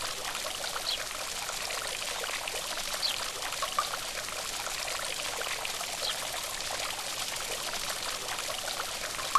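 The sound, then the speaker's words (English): Steady streaming water pours and splashes continuously down over the ornate carvings of a stone fountain on a garden lawn, a bright, even rush with small droplet sparkles, moderately loud, with no voices. “The fountain is made of stone, and water streams down over ornate carvings.”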